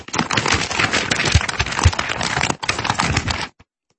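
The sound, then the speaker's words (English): Paper is shaken hard by an interviewer for about three and a half seconds, a loud, dense crackling rustle with a brief break near the end before it stops abruptly. No one speaks. “It was like for 45 seconds he was shaking paper.”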